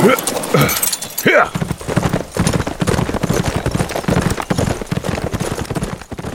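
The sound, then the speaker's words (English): Horse hooves clip-clop in a steady, rapid rhythm for several seconds, fairly loud, sounding like more than one horse moving along, after a brief voiced sound at the start. “Mindful of the bodies he brought, he put the noses of the horses in the direction of the column.”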